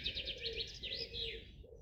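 Several birds sing and chirp at once in a forest, bright high warbling phrases overlapping continuously, with a soft low rumble of ambient sound beneath.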